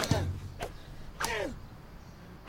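Three sharp whip cracks land a fraction of a second apart, each a bright, cutting snap, with a pained vocal cry ringing out after the third lash.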